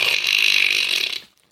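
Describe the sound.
A voice imitates a woman's loud snore: one harsh, raspy rattle lasting just over a second, steady, then it cuts off into near silence.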